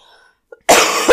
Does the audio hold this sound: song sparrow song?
no